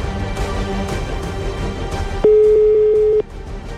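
A telephone ringing tone while calling: a single loud, steady electronic tone lasting about a second, sounding over a low, murmuring background hum.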